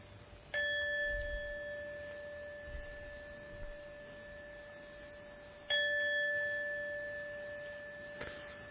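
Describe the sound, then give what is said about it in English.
A meditation gong is struck twice to end a meditation, several seconds apart, each stroke ringing out in a clear, sustained tone that slowly fades, with a faint third tap near the end and no voices. “So I'm now going to ring the gong to end the meditation.”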